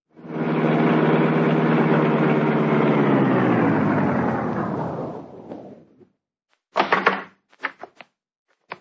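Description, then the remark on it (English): A car arrives, its engine rumbling loudly and steadily with a low harmonic drone, then winds down and cuts out, followed by a few sharp clunks and knocks. “Here comes the car.”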